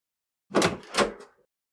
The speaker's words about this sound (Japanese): その日もいつもと同じ時間の帰宅であった。慣れた手つきで鍵を開け、扉を開く。